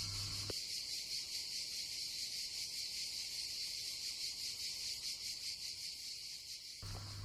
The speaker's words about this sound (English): And the sound of cicadas will play on hot days.